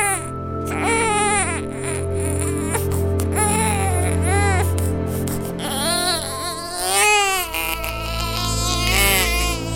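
A baby cries loudly in a series of rising and falling wails with short breaths between them, over a steady low background rumble.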